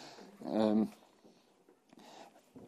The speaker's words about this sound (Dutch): En voor degene die later luisteren, er ligt hier een hond te dromen. Dus die kan zijn dat je wat merkwaardige geluiden op de achtergrond hoort.